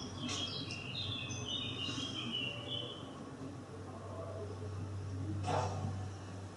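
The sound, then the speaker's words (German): Birds chirp softly in the first few seconds, a quick flurry of high twittering notes, then fade behind a steady low hum and background noise. “The birds are always here. The birds don't care.”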